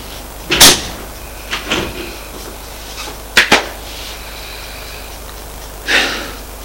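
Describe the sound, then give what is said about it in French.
A bedroom door being handled, with a few sharp bumps and clicks spread irregularly across a quiet room, including a quick double knock partway through. No one speaks. “Heureusement que la porte de ma chambre est restée ouverte, parce que je n'aurais pas pu mettre la clé dans la serrure.”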